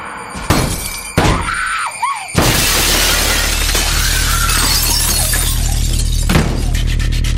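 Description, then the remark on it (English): A few sharp bangs, then loud window glass shattering that crashes on into a long wash of breaking and scattering shards, with another hard impact near the end. “He's outside the window, and he fucking breaks the window by lobbing her boyfriend's severed head through it.”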